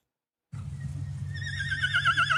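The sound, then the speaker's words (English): A horse whinnies in a long, squeaky, wavering call, its high quavering pitch rising and trembling over a steady low rumble, growing slightly louder toward the end. “So I want to play this one and see if you think it would work for my daily whinnies.”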